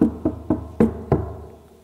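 Five firm knocks on a door, fairly loud: three evenly spaced raps followed by two slightly heavier ones after a short gap, each with a brief hollow ring. No talking.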